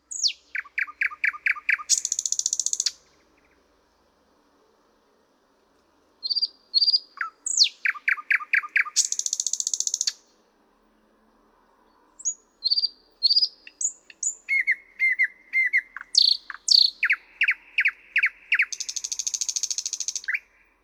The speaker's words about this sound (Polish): Warto jednak zwrócić uwagę, że liczba sylab w poszczególnych frazach jest większa niż u Słowika Rdzawego. A ponadto w innych zwrotkach występują jednak terkoczące frazy typowe dla Słowika Szarego.